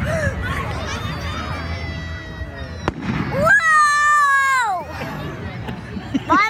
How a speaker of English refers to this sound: We forget that there's people that have never seen a fireworks display before, you know? That's funny. Every time it would launch, he'd go, whoa! The finale must have been a killer.